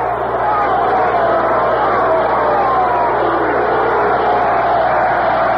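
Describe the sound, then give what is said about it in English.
A stadium crowd of 14,460 in Washington cheers at night, bidding farewell to the Washington Senators, in a loud, steady roar that holds for several seconds, a dense wash of many voices without a break. “We might have had a lot more people there on opening day, but they weren't more demonstrative than the crowd we have tonight.”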